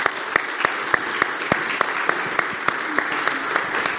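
A church audience applauds steadily, a dense wash of clapping with sharper individual claps popping out, sustained and fairly loud for the whole stretch.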